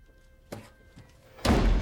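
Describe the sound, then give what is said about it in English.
An apartment door slams shut with a heavy, loud bang that rings out near the end, preceded by a couple of softer thumps and knocks, with no voices. “Oh, Jim, don't slam the fucking door, the kids are asleep.”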